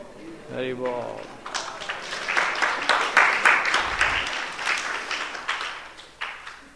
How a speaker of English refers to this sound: The Prabhupada says, but if you clap your hands in kirtan, all the lines go away.